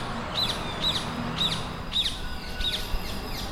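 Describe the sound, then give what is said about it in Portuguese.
Rose-ringed parakeet, a species native to sub-Saharan Africa and South Asia, living wild in a city in Portugal: a series of five sharp, high screeches repeating about every half second over a steady background hum with no talking. “O periquito de colar, ou periquito rabijunco, é uma espécie originária da África subsaariana e do sul da Ásia, onde se alimenta de frutos, grãos, sementes, pagas e flores.”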